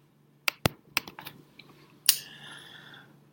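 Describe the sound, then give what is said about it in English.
A handful of sharp, dry clicks in quick irregular succession, followed by a louder click with a brief ringing tail, the clicking of a recording being paused, with no talking. “And if you hear a clicking noise, that is me pausing the podcast to stop.”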